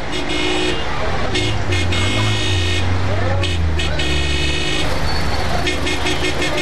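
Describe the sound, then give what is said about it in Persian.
Busy street traffic with taxis, a steady engine rumble, broken by repeated car horn blasts, some short and some held, overlapping one another throughout, with faint voices mixed into the street noise. “تکسی این طرف گوشکو، این طرف.”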